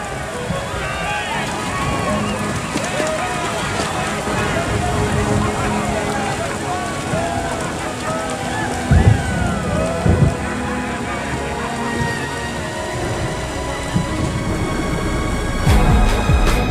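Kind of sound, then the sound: nature, rain falling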